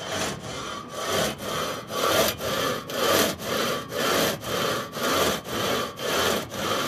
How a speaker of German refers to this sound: Ihr wisst, was jetzt kommt. Faszinierend. Und die Säge läuft tatsächlich.